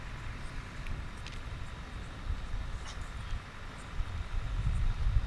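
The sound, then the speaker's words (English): Ocean waves wash in a continuous low, rumbling roar with a hissy top, swelling gradually louder toward the end, with no voices present. “Just like the waves of this ocean we're hearing in the background tonight.”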